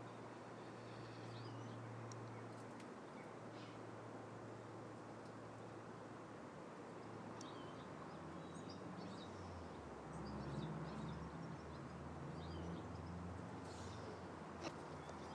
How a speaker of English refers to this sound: Birds are gathering, thank goodness. I really do not hate, too strong a word, but don't like when my garden's silent.